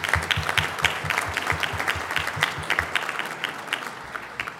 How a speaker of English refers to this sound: So let's have a round of applause for ….